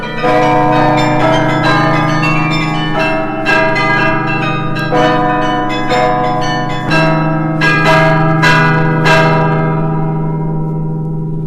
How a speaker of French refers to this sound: Beffroi de Mons, 83 mètres, hein, je crois, et tout en haut, le carillon, 49 cloches, et bien sûr un carillonneur qui vient de temps en temps animer ces cloches.